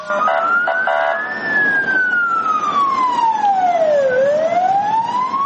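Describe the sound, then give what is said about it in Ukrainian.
A fire engine siren wails loudly, its pitch sweeping slowly up and down in a long continuous rise and fall over steady traffic-like rumble, as on-duty fire crews arrive at a burning wheat field during a firefighting drill in Liman. “Дежурные расчеты прибывают в считанные минуты.”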